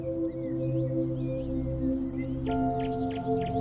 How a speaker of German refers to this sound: Du hörst das leise Zwitschern der Vögel.